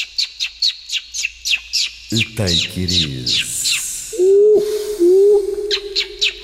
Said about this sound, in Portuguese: Epá, ninguém fala enquanto esses passarinhos não se calarem.